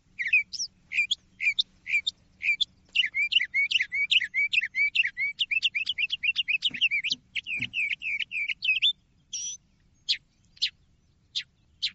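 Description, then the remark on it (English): A northern mockingbird sings a long, varied run of bright, rapid chirps and trills, switching phrases every second or so, clear with a faint low hum behind it. “This is the northern mockingbird.”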